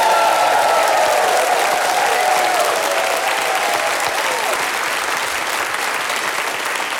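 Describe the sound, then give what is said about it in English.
Loud, steady applause from a large crowd welcoming the four panellists of Just a Minute, Ian Smith, Uruj Ashfaq, Giles Brandreth and Janie Godley, with rising whoops and cheers sliding in pitch over the clapping during the first few seconds, then continuing as dense sustained clapping. “Please whoop and cheer for them!”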